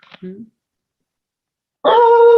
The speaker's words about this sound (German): Der Hund knurrt, ich höre das nicht, wegen den.